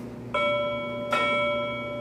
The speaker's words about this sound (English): You hit a bell, that must mean we're gonna talk about some wrestling.